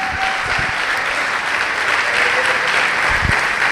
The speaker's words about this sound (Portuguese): Vamos aplaudir a Jesus por isso.